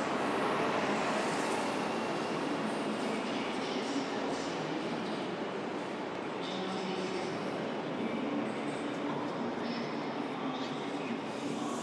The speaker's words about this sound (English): Some kind of motorised train on its way out. A diesel train. Right, I ought to double check that my train is on this platform.